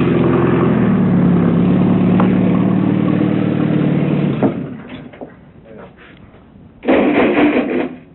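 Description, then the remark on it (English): A tractor engine, started while the tractor is being examined in late July or early August 1969, runs with a steady, throbbing low drone that shifts pitch slightly, then cuts out abruptly, leaving scattered clunks before a short, loud burst of mechanical noise near the end. “examining the tractor. He started it”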